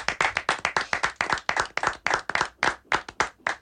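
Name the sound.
applause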